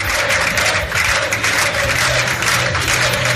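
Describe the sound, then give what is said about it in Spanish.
A large crowd gives a loud, sustained ovation at the PP national headquarters on calle Génova in Madrid as Juanma Moreno Bonilla, winner of the Andalusian elections, arrives; dense applause mixed with cheering and shouts of 'presidente' holds steady throughout, without any clear speech on top. “Hoy ha sido un día para la celebración por todo lo alto en la sede nacional del PP en Madrid, calle Génova, donde Juanma Moreno Bonilla ha sido recibido entre una gran ovación y gritos de presidente.”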